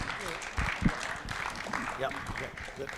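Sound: audience applause welcoming speaker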